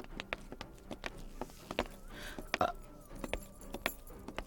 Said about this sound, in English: Fuck, hold on. Let me get my keys.